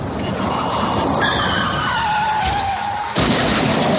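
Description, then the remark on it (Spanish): A car's tires screech in a long, high-pitched skid that slides downward in pitch, then a loud, sudden crunch of impact as it hits another car cuts in near the end, followed by continuing noisy clatter. No one speaks. “y cómo no, ese gasto imprevisto cuando tienes que llevarlo al taller, bien, porque has tenido, por ejemplo, algún golpe contra otro coche.”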